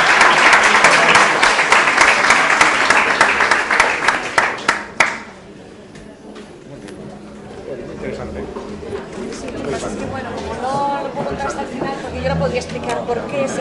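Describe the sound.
A crowd claps steadily for about five seconds, a dense, loud patter of many hands, then the applause dies out and soft murmuring voices continue underneath.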